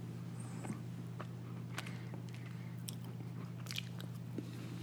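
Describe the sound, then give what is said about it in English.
Crunchy chewing of the crystals in an aged cheese, with irregular sharp crackles and pops over a steady low hum. No talking. “I can crunch the crystals, which is clearly now...”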